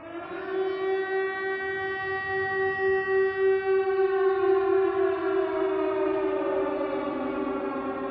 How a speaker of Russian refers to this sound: Старичок достал бумагу, спички и зажег огонь. Пошел дым, сработала пожарная сигнализация.